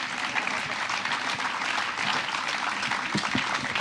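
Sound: enthusiastic applause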